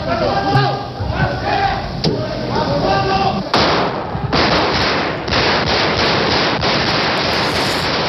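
Bursts of gunfire crack and echo through the Spanish parliament chamber, several rapid volleys of shots over agitated shouting voices and crowd commotion, loud and close.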